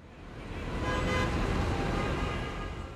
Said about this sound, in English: Jack bounded down the school steps to Park Avenue, into a swarm of yellow taxis and hundreds of people. Horns were honking, people were talking loudly on their mobile phones, and delivery trucks were making stops in front of shop owners' basement